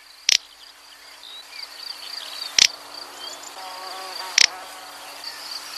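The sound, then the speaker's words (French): A little bustard calls three times, each a short, dry, raspy snort spaced about two seconds apart, standing out over a steady high buzzing of insects. “Son chant a souvent été comparé à un pet humain, donc littéralement une canne qui pète.”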